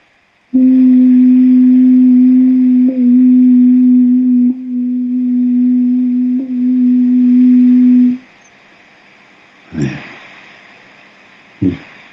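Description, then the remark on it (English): A single voice hums one low, steady note for about eight seconds during a heart chakra sound exercise, holding the pitch with a few slight wavers, followed by silence and two brief soft bursts. “Get it humming in your heart.”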